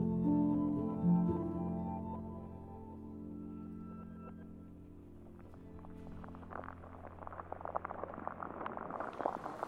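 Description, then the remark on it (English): An underwater soundscape of a pool: a steady low droning hum with faint tones, then a growing scatter of soft crackles, clicks and pops in the last few seconds. “You can't really see under the water often, but you can listen and hear. So it sort of reveals this very mysterious soundscape, and you're not really sure what's making the sound, but it's very fascinating.”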